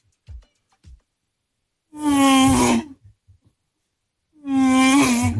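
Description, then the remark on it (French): A voice imitates a Formula 1 racing car with two loud, buzzing, high-pitched whines, each sweeping and wavering like an engine revving past, separated by a short pause after a couple of soft taps. “C'est quoi? La Formule 1. Formule 1 ou un très gros moustique.”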